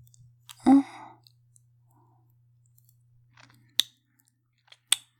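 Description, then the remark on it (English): Quiet chewing of a soft glazed donut, opening with a breathy sigh, then sparse wet mouth clicks and smacks amid near silence. No one speaks. “Glazed donut, probably.”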